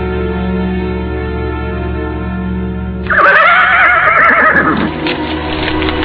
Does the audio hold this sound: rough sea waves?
no